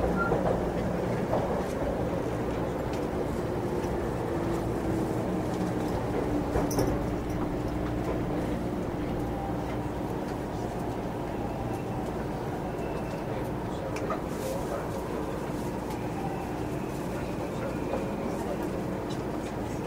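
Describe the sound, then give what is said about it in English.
A train rolls steadily along the rails toward Shinjuku, heard from inside the carriage: a constant low rumble with faint rhythmic clatter and a thin whine, while muffled voices murmur in the background. “And this time we're going to stay on the train all the way to Shinjuku.”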